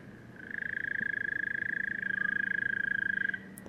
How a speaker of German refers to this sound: Wo ist der Ruf aufgenommen worden, den Grillenruf? Ja, das ist in Costa Rica. Habe ich das gehört, da gibt es Unmengen an Grillen, die einem fast in Wahnsinn treiben, vor allem, wenn man schlafen muss.